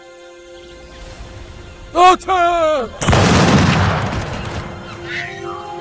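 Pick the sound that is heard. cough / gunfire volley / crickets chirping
gunfire volley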